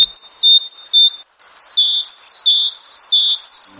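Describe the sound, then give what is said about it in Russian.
A great tit in Altai Krai, Russia, sings a run of bright, high two-note phrases repeated in a quick steady rhythm, clear, with a brief pause near the start before the song resumes. “Сегодня открывает программу «Синица».”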